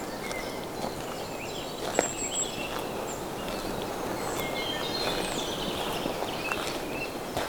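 Several birds sing loudly and chirp in a fir forest, their high whistles and trills layered over a steady bed of rustling and crunching footsteps, with no voices.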